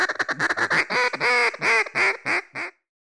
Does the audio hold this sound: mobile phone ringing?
no